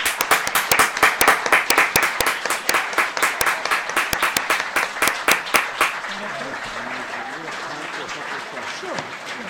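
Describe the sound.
A group claps steadily in quick, dense bursts for about six seconds at the end of the Talking Show on KTN Radio, then the clapping thins out and gives way to faint murmuring voices.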